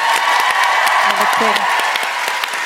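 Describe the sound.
A crowd applauds, a dense and steady wash of many hands clapping at full volume the whole time, with a brief voice rising faintly underneath.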